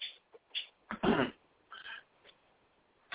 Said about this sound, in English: Excuse me for my clearing my throat, but let me clear my throat.